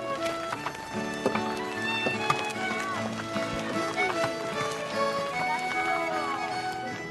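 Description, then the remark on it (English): Horse hooves clip-clop steadily as a horse-drawn cart rolls along past yards with cows and chickens on a sunny, cold autumn day, with a busy, continuous mix of tonal sounds from a trio playing instruments aboard the cart and voices layered over the rhythmic hoofbeats. “our trio grabs our instruments and scampers aboard the vehicle that's been provided for us, a horse-drawn cart.”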